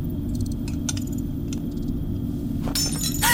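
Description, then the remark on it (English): Glass clinks a few times over a steady low rumble, then breaks and shatters in a bright, scattering burst near the end. The sounds are fairly loud, with no voices. “Oh, don't break them! I didn't bring enough for them to get shattered.”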